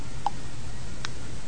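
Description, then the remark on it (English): Two crisp, fairly quiet clock ticks, spaced about three-quarters of a second apart, over a low steady hum with no voices. “And the clock keeps ticking away.”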